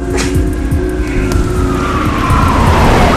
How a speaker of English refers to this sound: The police car speeds away.